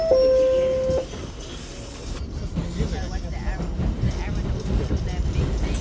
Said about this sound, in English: We're going to take the subway. Right, the 80 blocks uptown to a listener who works at Columbia University on 122nd Street. Grab the express train.